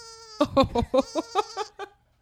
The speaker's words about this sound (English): Did you do the farm animals? Yeah, we have pig snorting. And we have the saddest little sheep of all time.